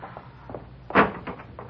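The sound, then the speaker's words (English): A street door is opened with a single sharp clunk and rattle near the middle, followed by a few softer knocks. “You go out first, Pop, and open the street door.”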